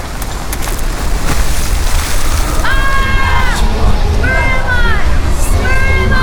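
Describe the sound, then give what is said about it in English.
A splash as someone takes a running start and jumps into the water of a waterfall, then loud, steady rushing water, the roar filling the whole clip, with a few choppy slaps early on and warbling voice-like tones rising over it later. “And how am I supposed to go into a waterfall?”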